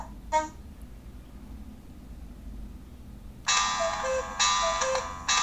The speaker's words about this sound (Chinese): 您设置的闹钟2是14:26。 我们现在听到的就是这个闹钟的声音啊。